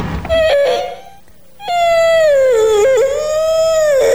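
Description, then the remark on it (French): An old, stuck door, not opened since about last spring, creaks open in two drawn-out, high-pitched squeals: a short one, a brief pause, then a longer wavering groan that dips and rises in pitch. No one speaks. “La porte a l'air un petit peu coincée.”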